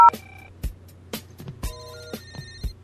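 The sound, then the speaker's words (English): A telephone rings with an electronic ringtone for an incoming call from a toll-free number: steady beeping tones over a regular pulse of sharp beats about every half second, clear, with no one speaking. “There's a toll-free number calling us.”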